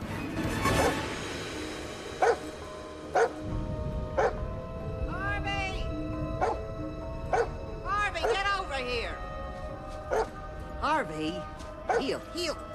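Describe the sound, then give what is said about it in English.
A dog barks repeatedly in short, sharp yaps spaced a second or so apart, with a few whining, yelping cries mixed in, as it runs off into the night, over a steady rumbling background. “As the dog runs off into the night”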